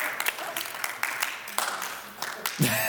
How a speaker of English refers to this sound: Okay, you can stop clapping now. You guys are not good. You guys are not united.